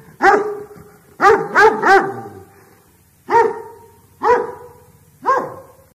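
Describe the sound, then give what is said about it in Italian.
Two angry dogs bark loudly, with about six sharp barks: a single bark, a quick burst of three, then three more spaced a second apart. No one speaks. “Al loro posto mise due cani arrabbiati.”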